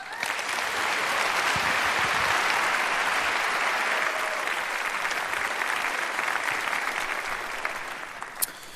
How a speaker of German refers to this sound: Also begrüßt ihn mit einem großen, herzlichen Applaus.